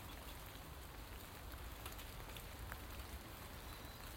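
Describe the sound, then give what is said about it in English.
Steady rain pattering down, a dense, even wash of tiny droplet hits with occasional slightly louder taps, continuous with no voices. “But it is that lovely rain, that pitter-patter, pitter-patter.”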